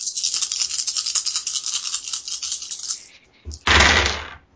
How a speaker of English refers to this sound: That's a lot of dice. I hope they're all sixes.